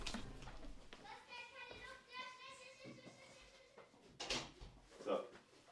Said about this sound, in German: Auch ist jetzt hier die Tür offen, das ist jetzt, das verstehe ich nicht. Ich muss die Tür nochmal zumachen.